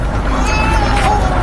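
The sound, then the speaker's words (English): A bus pulls up at a stop, its deep engine rumble loud and steady with a thin whine riding over it, and a murmur of street noise around it. “We've got to get on the bus.”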